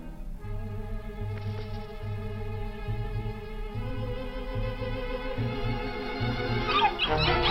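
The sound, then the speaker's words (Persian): Several puppies whimper and yap together in a continuous, high-pitched chorus of whines over a low rhythmic thumping, close and fairly loud, with a brief louder burst near the end. “برید عقب. نکنید دیگه. بس کنید دیگه طول سگا.”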